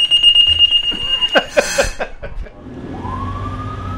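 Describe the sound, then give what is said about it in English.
A fire station alarm at the Reading fire department sounds for an incoming call, a steady, high-pitched electronic tone, broken by bursts of clattering, then a low rumble and a rising wail begin to build underneath. “I'm about to talk with firefighter Mike Shumwiski about this year's union negotiations when a call comes in.”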